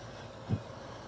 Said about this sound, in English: Uh-oh, big truck coming by.